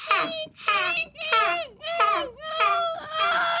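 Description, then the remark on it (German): A voice imitates the alarming Psycho-style horror film shriek: about six quick, high, wailing bursts in a steady rhythm, each one gliding downward in pitch and fairly loud. “Alarmierendes Horrorfilmgeräusch à la Psycho.”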